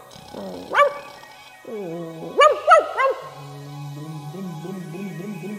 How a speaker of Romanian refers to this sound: de sub scaun lătră cu furie.